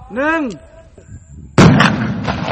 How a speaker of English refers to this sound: And they're still exploding today. This is a controlled detonation by the Mines Advisory Group, which works in Laos to clear the bombs, literally a few square yards at a time.